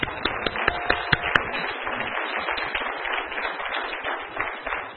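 An audience applauds an attendee who brought two guests, in a dense, steady wash of many hands clapping, with a few sharper individual claps standing out early on before the applause carries on evenly.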